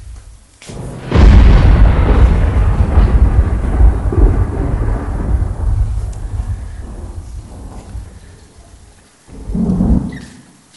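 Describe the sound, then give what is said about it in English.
A loud, deep roll of thunder crashes in, then rumbles on and slowly fades over several seconds, followed by a shorter second rumble near the end. “Do you hear something? Yeah. Thunder.”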